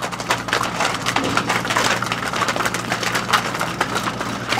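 A dense, continuous clatter of many cattle hooves knocking and scuffing on a hard surface at a slaughterhouse, with sharp overlapping clicks over a low steady hum and no voices.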